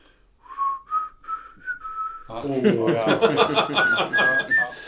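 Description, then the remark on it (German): Someone whistles a short tune from a rock song, a few steady, sustained notes, clear, then breaks off as people burst into laughter and chatter that fills the rest. “Ja, pfeifende Lieder ist immer schon schwierig.”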